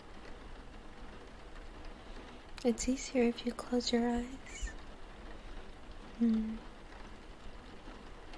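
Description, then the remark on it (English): Steady rain patters on surfaces as a constant, soft hiss that runs the whole way through, while a voice speaks briefly and quietly over it partway in. “Listen to the rain. It's so soothing.”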